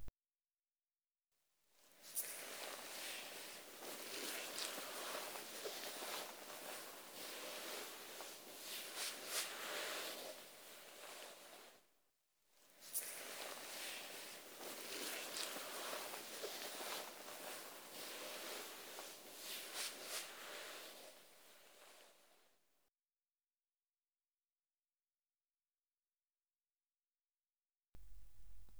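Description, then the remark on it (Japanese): Soft, broad brushing swishes of a soft towel wiping away foam after a foam wash, two long continuous strokes each lasting about ten seconds, quiet, with no talking. “泡を柔らかなタオルで拭き取っていきますね。”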